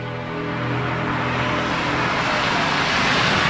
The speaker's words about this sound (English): The Sanders are driving along a tree-lined road. Susan, Tom, Matt, and Eliza are in the SUV. Tom stares forward as Susan drives.